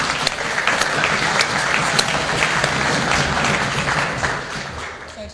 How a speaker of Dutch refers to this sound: En dan mag hij ook een applaus voor hem doen.